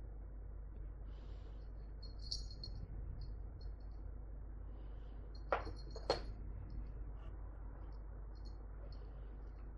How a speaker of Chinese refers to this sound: 这小木屋里挂着的风铃，怕什么？一惊一乍的把我吓一跳，真是的。